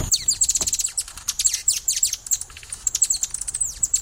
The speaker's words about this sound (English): That's a hummingbird.